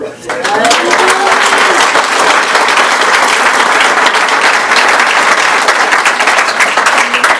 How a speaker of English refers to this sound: Please don't applaud me. That applaud goes for you, who believes in a hopeless addict like myself.